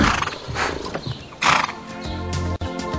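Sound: horse whinnying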